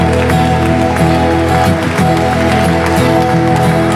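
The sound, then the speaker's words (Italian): A church audience applauds loudly and steadily for several seconds in praise of God the Father, the dense clapping blended with sustained musical tones playing underneath. “Un applauso al Padre che ha voluto questo.”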